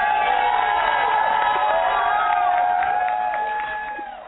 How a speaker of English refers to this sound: Now we got to give you another applause.